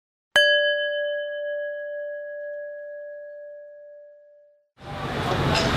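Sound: bell ringing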